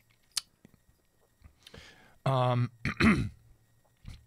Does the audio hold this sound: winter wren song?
no